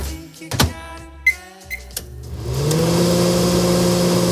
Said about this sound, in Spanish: La verdad que ya apetece cuchara, pero a lo mejor lo que está calentando este microondas es una lasaña precocinada o una pizza congelada, porque una vez más no te ha dado tiempo a preparar nada.